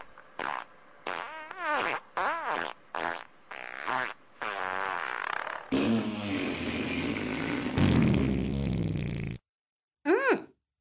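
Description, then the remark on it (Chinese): In a toilet, a quick run of short, squeaky farts in rapid succession, then a long, loud sputtering rumble, and after a brief silence one last short toot. No one speaks. “别放屁了，好臭啊，现在厕所里好臭，你的臭屁味和大便味混合在一起，超级臭的。”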